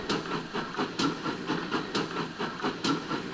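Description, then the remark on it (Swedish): A steam train chugs steadily, with rhythmic hissing puffs repeating about three times a second, moderately loud, with no voices. “Man på lokomotivet blåser i en flöjte. Tut, tut, tut, tut, tåget står.”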